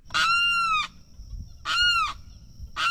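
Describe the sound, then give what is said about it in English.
Loud, harsh wailing screams of a limpkin, a crane with a long windpipe, each lasting over half a second with strong stacked harmonics, repeated three times with short pauses between; no one speaks. “The limpkin is a crane with a long windpipe, and it's known for its screams.”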